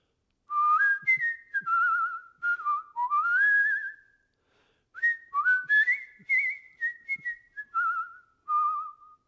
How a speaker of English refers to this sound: And there was only one person who whistled like that.